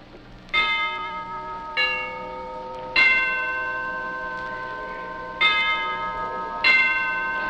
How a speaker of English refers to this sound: There's the tardy bell. Everyone is in homeroom now. Well, almost everyone.